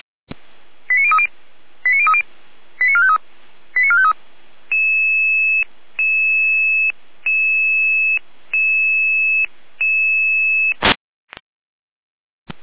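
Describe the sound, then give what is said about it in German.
A radio dispatch alerting sequence calling out emergency units to a gas leak in a gas turbine hall in Rudolstadt, Germany: several quick bursts of rapid stepped beeps, then a steady electronic tone pulsing on and off about eight times, ending in a short crackle of static. “Ihre Alarmierung.”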